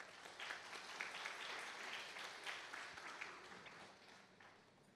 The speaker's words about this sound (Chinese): 所以为今日能够在这里在这里作为一个属灵领袖的爸爸，请你为他们鼓掌。